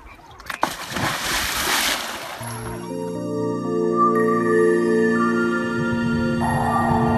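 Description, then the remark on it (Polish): A weighted diver, elbows tucked and chin to chest, slides backward into water from the water's surface with a loud splash and churning burst of bubbles lasting about two seconds, then the sound gives way to a muffled, sustained underwater drone. “O tak, i nic nie rób, tylko po prostu ześlizgnij się do tyłu, do wody.”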